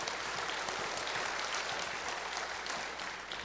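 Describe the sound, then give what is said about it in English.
A steady burst of audience clapping for a group of soil testers fills the space for a few seconds, dense and continuous with many hands, then tapers slightly toward the end. “Let's give our soil testers a round of applause.”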